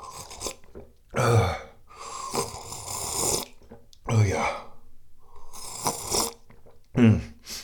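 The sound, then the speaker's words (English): A loud coughing fit: a series of harsh, raspy coughs in irregular bursts with wheezy breaths between them, and a brief spoken word or two. “Having a little coughing attack.”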